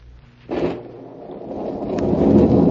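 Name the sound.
heavy rain storm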